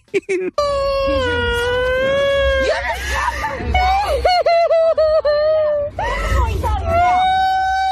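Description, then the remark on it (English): A woman cries and wails loudly in long, high, quavering cries, with brief choked breaks and sobbing gasps between the drawn-out wails. “I mean, this crying goes on for a while, and I could listen to every second of it.”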